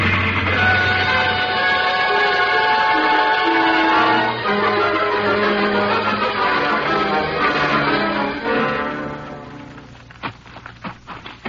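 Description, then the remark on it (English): A heavy train engine drones loudly and steadily with a deep rumble and whining overtones as it strains up a hill, labouring for about ten seconds before fading into a few sharp clicks. “Now, there's the engine, Jace.”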